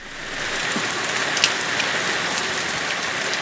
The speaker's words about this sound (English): A steady rain was falling over Britain on December 15, 1944, and it was cold and foggy.